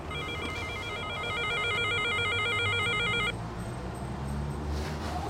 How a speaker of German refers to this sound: So, dann klingel ich mal.